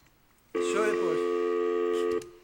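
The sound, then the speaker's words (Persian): A single steady electronic telephone tone sounds loud for about a second and a half, then cuts off, as the line to the first caller connects on a radio call-in show. “با اجازهتون میریم سراغ اولین تلفن.”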